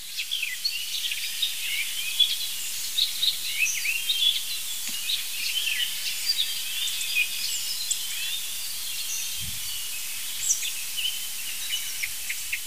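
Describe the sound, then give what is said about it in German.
An icterine warbler sings a restless stream of varied imitations: quick high chirps, thin whistles and scratchy, buzzy notes tumbling together without pause across the whole stretch, with no voices. “Das sind die wilden Imitationen des das sind hier die wilden Imitationen des Gelbsplitters.”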